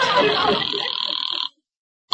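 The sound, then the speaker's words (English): A telephone rings as a caller calls back, with a steady, bright electronic trill for about a second and a half, then falls silent before the next ring briefly starts. Some muffled voice sound mixes in at the start. “I tell you what, you hang up and I'll call you right back.”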